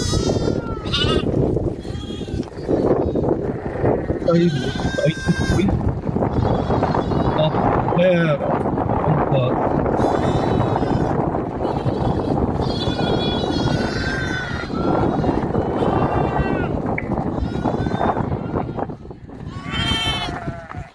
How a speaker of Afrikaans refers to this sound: So as die bakkie daar gestop het om voer te bring, dan hardloop daai skape van ver af van hulle bler.